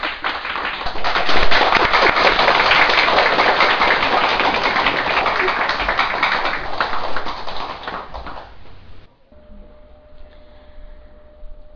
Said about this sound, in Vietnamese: Xin quý vị vỗ cho mình một tràng pháo tay.